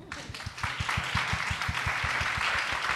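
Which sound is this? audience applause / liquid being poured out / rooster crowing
audience applause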